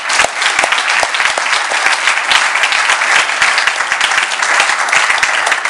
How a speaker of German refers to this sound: So, jetzt lasst uns doch nochmal klatschen für die Zuschauer.